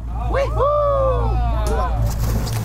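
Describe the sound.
A steady low engine drone runs throughout, like a motorboat idling nearby, while people's voices call out loudly over it in a drawn-out, sing-song exclamation.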